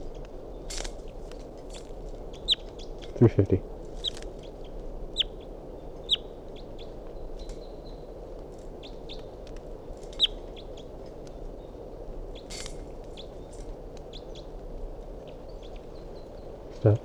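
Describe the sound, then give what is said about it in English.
A wild bird, recorded as bird 350, calls with short, high chirps scattered irregularly throughout, faint against a steady hiss of background noise, with a couple of low thumps early on. “Recording a wild bird.”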